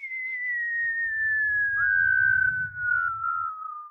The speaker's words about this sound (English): Man, I love a good whistle tip football